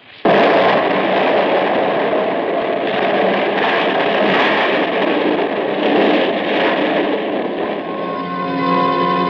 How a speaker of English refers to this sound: Everything else was exactly the same, including that 12 sticks of dynamite with the fuse sputtering. And now, the dynamite was going to go off because I wasn't outside to stamp out the fuse. And as we hovered there, it did.